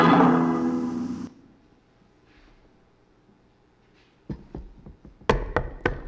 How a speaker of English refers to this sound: Knock, knock. Who's there?